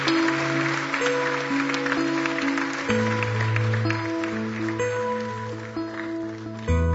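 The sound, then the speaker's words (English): An audience claps steadily for several seconds for people who have come to the front to pray, a dense wash of many hands, while sustained keyboard chords play underneath and shift partway through. “Can we give them a big, big hand clap and let's just let them know we love them?”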